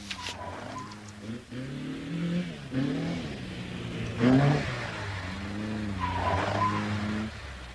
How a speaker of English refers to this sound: I can see a headlight. There's a car coming into the yard.